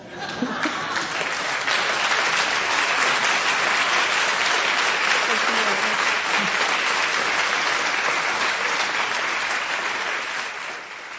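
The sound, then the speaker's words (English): A crowd applauds at the end of a story, a steady, dense wash of many hands clapping at a constant loudness for about ten seconds before easing slightly at the end, with a few faint voices mixed in. “Now that is a sound I miss, the sound of laughter and applause.”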